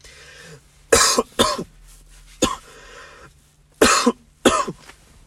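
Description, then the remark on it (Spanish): Several sharp coughs come in uneven bursts, some in quick pairs, with short quiet gaps and faint background hum between them; no one speaks. “Desde ahora voy a toser en los episodios hasta que vuelva a acostumbrar mi voz a hablar.”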